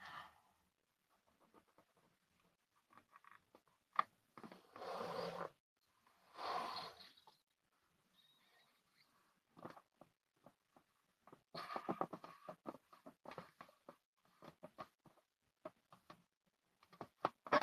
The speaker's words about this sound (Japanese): 聞いてください、この風船の音。あ、膨らんだわ。できた、できた。15センチの可愛い風船ができました。